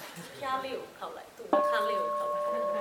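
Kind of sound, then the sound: signal or alarm, bell being rung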